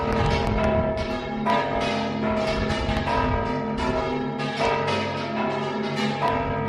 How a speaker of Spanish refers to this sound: Sí, en el sonido de las campanas, porque o vives muy, muy, muy cerca de alguna iglesia donde todavía se repiquen las campanas, o ya digo, en la ciudad con tanto ruido alrededor es difícil, ¿no?, fijarse en eso, en el sonido de las campanas,